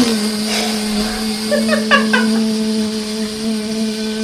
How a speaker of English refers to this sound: Is that just the motor running? Yeah, exactly, yeah. Exactly. That has answered both. It's a vacuum.